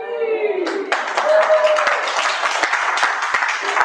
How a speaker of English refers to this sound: You get a round of applause.